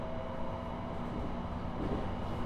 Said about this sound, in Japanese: JR 東日本を利用いただきましてありがとうございます。この列車は東北本線上り普通列車Koriyama行きです。